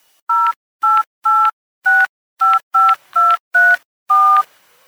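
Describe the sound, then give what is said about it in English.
A rapid series of nine cell phone keypad tones beeps out as someone dials a friend, each a short, clear two-note chirp with brief pauses between, ending with a slightly longer final tone and faint hiss. “I use my cell phone to call my friend.”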